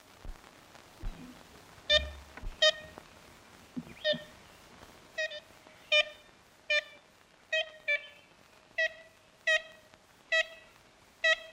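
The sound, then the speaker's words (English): Historic first recording of ivory-billed woodpecker calls, made in a Louisiana swamp: about a dozen short, nasal, tooting notes like a toy horn, repeated at a fairly steady pace, with a few faint knocks early on and no voices. “That was the first, and possibly the last, recording of an ivory-billed woodpecker.”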